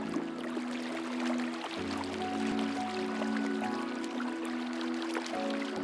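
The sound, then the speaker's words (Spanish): A large river flows steadily, its broad rushing wash constant throughout, with a low sustained hum running beneath and small splashing details near the surface. “Se han acabado las huellas. Llegamos a un gran río.”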